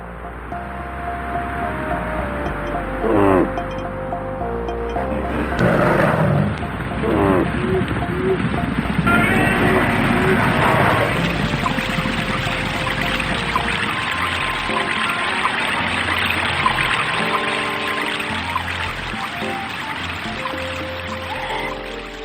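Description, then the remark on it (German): A steady wash of rushing, pouring water runs throughout, with faint chirping birds and occasional soft brighter accents layered over the continuous flow, forming a calm outdoor ambience from the video game Albion, heard while exploring its landscape. “Welche Rauschen, Vögel zwitschern und solche Geschichten.”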